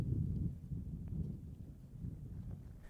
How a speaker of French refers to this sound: Nouvel acte du ballet muet sur fond venteux, la signature proprement dite est très longue.